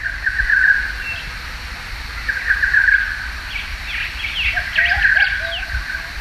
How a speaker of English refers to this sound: This is a lovely recording of birds on Bribey Island, and if you listen to the full length of the recording, there's actually a lot of species calling, 7 or 8. At various points I can hear bar-shouldered doves and peaceful doves